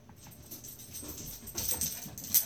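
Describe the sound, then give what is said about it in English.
A dog makes soft, restless snuffling and panting sounds, rising toward the end with a brief high-pitched whine; no one speaks. “Dog, what are you doing?”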